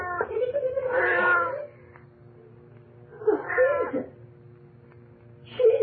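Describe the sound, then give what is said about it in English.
A cat meows three times from inside a freezer in drawn-out, wavering cries, the first long and loud, the second shorter, and a final brief one cut off at the end, over a faint low hum. “Hey, that cat sure is lucky.”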